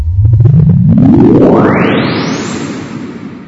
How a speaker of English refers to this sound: Normally, he blasts audio tones at ear-splitting levels to test the sound-blocking properties of various construction materials, doors, windows, wall insulation.